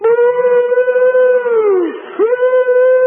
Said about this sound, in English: The train is sitting on the track and just put all of its energy blowing the whistle, and then the power pressure comes back down to 20 and they build it back up, and then.